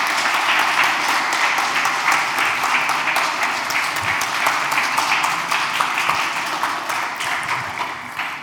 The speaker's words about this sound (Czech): Tak jo, děkuji moc. Yeah. Potlesk pro Grega, prosím.